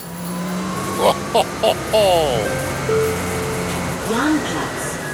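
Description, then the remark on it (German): Steady engine rumble of a moving bus, with a few short electronic beeps and chimes early on and a rising whine of the motor near the end. “ab in den Bus.”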